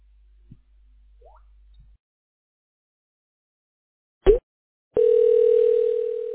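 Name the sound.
telephone ringing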